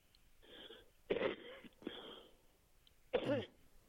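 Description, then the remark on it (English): A 90-year-old man coughs in a series of four harsh, wheezy bursts spread over a few seconds, moderately loud, with brief pauses between them and no talking. “Well, listen, I know you're just coughing a little there, but I'll tell you, you're 90 years young.”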